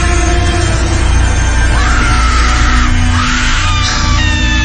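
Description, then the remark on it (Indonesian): A woman screams loudly and repeatedly as if in pain, her high, strained cries rising over a dense, noisy background, intense, with several drawn-out shrieks one after another. “Tiba-tiba terdengar suara teriakan seorang perempuan menjerit kencang sekali.”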